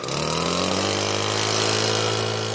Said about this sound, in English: And with that, he fires up his leaf blower and gets back to work.